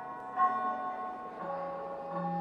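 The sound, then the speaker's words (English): Church bells ring out in a slow sequence of about three strikes, heard in a former church building that is now the Russian Museum of Art, each leaving bright, humming overtones that overlap and linger at a steady, moderate level with no voices. “There even seemed to be church bells.”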